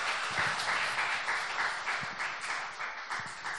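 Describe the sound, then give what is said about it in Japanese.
Sustained applause for Jesus from a sizable crowd during a Christian sermon, a dense, steady wash of many hands clapping at once with no voices standing out, holding fairly even for several seconds. “どんな時も私たちを離れずに、どんな時も私たちを支え、導いてくださる、素晴らしい愛するイエス様にですね、もう一度大きな拍手をしましょう。”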